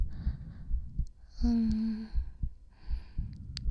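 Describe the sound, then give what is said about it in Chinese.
A teacher's muffled heartbeat, heard up close, thumps in low, soft pulses, somewhat fast, a steady throb under a brief breathy hum or sigh in the middle. “那这样，你稍微往下一点，这样就好，这样能听到老师的心跳声吗？”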